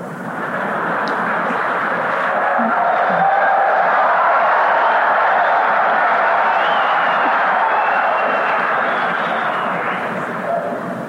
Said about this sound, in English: Sounded like the men that were cheering on that one.